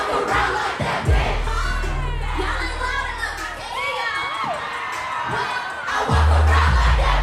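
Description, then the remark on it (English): A large concert crowd at a party cheers and shouts as the headliner performs on stage, a dense, continuous roar of overlapping voices, with deep booming bass thumps underneath that swell again as the noise surges louder toward the end. “The energy of the crowd only became more intense”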